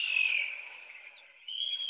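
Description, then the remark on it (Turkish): A King of Saxony bird-of-paradise gives an odd, drawn-out buzzing hiss, high and insect-like, loud at first, fading softer mid-call, then swelling again. No voices. “Önce evet Saksonya kralını dinleteceğim.”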